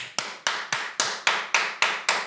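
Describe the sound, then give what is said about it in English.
Eight sharp, loud claps in a steady, quick rhythm, each one a crisp slap with a short ringing tail, with no voices. “it was really loud so clapping. Fucking loud. It was making my ear ring. Like thunderous.”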